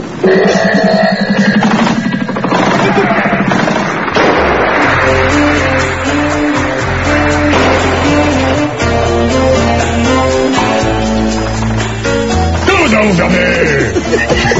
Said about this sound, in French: ce sont des explosions qui éclairent la nuit. Oui, mais il fait comme en plein jour, j'imagine.